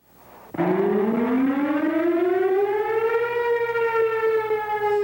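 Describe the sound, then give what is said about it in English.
A loud fire department alert siren in Cornell, used to call volunteer firefighters before pagers, starts abruptly and winds up, its wailing tone rising steadily in pitch and then holding a sustained howl with no voices present. “When I first got on, we didn't have pagers. They had a siren.”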